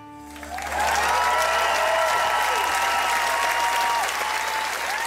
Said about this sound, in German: Applaus für den letzten Auftritt des Crossover-Meisters und Weltmusikers